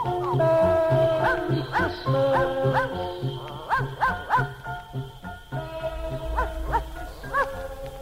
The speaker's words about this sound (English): Cause Boo-Bo goes where Santa goes and children know where Boo-Bo goes on Christmas Eve when all is dark. Children hear Boo-Bo bark.